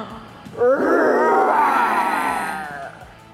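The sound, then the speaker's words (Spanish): Voices let out a drawn-out imitation of a lion's roar, pushed from the belly, a loud, rough, sustained vocal growl that swells quickly, holds for about two seconds, then fades away. “¿Estamos listas para rugir?”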